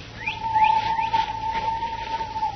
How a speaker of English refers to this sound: Hey, wait. Did you hear that? What? Another bird woke up. There wasn't any bird I ever heard here in Malaya.